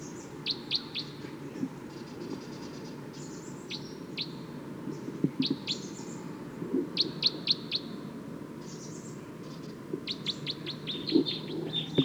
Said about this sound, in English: Wild bird's calling loud now, as well as the decoys. Stop. It's recording wild bird pretty loud now.